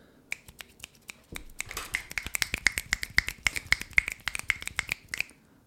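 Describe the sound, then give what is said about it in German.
An audience at a poetry slam applauds by snapping their fingers instead of clapping, a few sharp snaps building into a dense, irregular patter of many crisp clicks that thins out again at the end. No one speaks. “Also für alle, die neu dazugekommen sind bei uns beim Slam, ist das, wir finden das schöner, mit Schnipsen zu applaudieren.”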